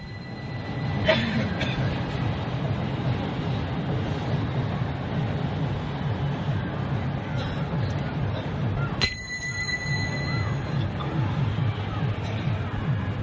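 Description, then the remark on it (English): A Mumbai train rumbles steadily with a dense roar of wheels on rails. High metallic squeals ring out near the start and again partway through, over faint crowd babble. “A Mumbai train.”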